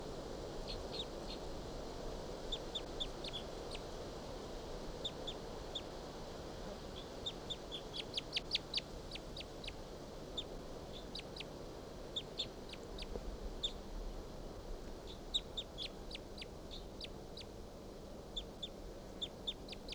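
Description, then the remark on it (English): Soft, high calls of wild birds repeat in short bursts of quick chirps over a steady low background hum, rising into a denser flurry midway before settling back to scattered calls. “Song now about the wild bird. And they're calling up their soft calls.”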